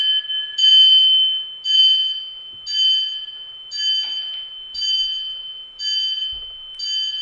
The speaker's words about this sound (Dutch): Het slaat 10 uur, het is 10 uur.